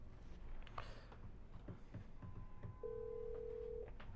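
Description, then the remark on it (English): A phone line rings once on the caller's end: a steady electronic ringback tone lasting about a second, heard over a low background rumble with a few soft clicks before it. “That's ringing.”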